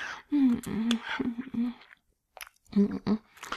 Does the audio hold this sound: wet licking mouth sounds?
yes